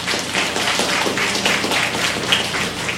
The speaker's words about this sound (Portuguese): A ele uma grande salva de palmas.